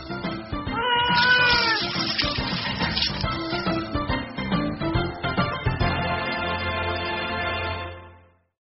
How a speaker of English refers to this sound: Where are you, little kitty? Meow.